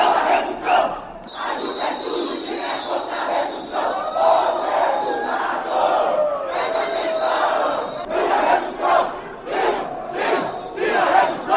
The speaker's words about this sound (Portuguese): Nas galerias, manifestantes contrários e favoráveis à PEC chegaram a interromper a sessão em alguns momentos.